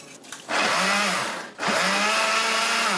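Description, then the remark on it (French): An electric blender in a laboratory in the Akwa district of Douala whirs loudly in two bursts, its motor pitch dipping and rising as it chops washed, seeded fruit for making pharmaceutical alcohol, with a brief pause between runs and no one speaking. “Les fruits sont nettoyés puis épépinés avant de passer au mixeur,”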